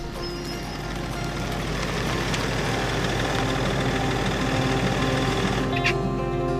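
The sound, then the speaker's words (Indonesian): A truck engine idles steadily with a deep, rumbling low hum and a faint knocking texture, continuous and fairly loud throughout, with no voices. “Keesokan harinya, pagi-pagi sekali, Pak Tani memetiknya dari pohon dan memasukkannya ke dalam truk.”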